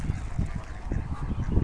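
ducks calling

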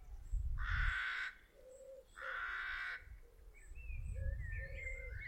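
crows cawing

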